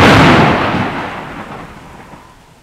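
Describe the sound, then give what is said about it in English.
A loud crash of thunder in stormy weather bursts out at once, then rolls into a deep rumble that slowly fades away over a few seconds, with no voices. “Crash! Boom! On Wednesday, it's stormy.”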